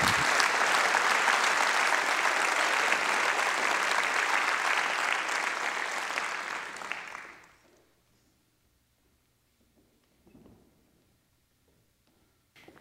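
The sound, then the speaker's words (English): A large audience applauds loudly for about seven seconds after a Bible reading from 1 Corinthians 13, a dense wash of clapping that tapers off and fades into near silence, with only a few faint rustles afterward. “Oh, come on, you have to give God's word a little applause.”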